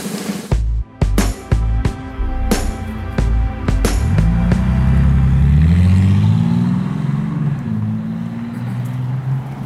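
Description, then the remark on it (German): Loud car engines rev and roar, starting with sharp bursts of throttle and then settling into a sustained, rising growl as the engine climbs through its revs; no one speaks. “Rührende Motoren. Gleichzeitig rührende Menschen im Auto.”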